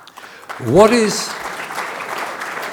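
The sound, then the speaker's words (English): An audience applauds steadily, a dense wash of clapping that swells early and holds. A single voice briefly whoops or cheers over it near the start. “You're applauding the Jewish people.”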